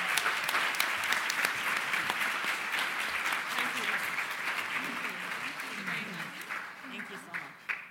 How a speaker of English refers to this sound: Another round of applause for our charity partners.